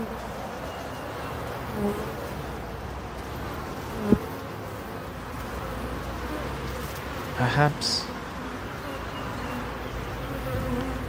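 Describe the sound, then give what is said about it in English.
A dense, continuous hum of many bees buzzing, steady throughout, with a few brief louder swells as individual bees pass. “Don't these bees look happy?”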